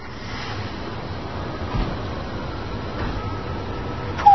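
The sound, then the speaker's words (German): A steady, rushing roar of cold wind blows outdoors at a prefabricated concrete housing estate in Rostock, Germany, continuous and fairly loud, with a couple of brief gusts and a sharper buffet at the very end. No one speaks. “Ist das kalt und windig hier?”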